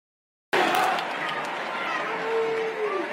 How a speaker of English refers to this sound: Can you hear the boos in the background? And there you can hear him saying, lock him up.